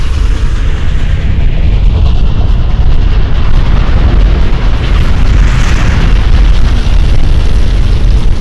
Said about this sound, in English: The avalanche crashes into the tracks, less than 100 meters behind the train.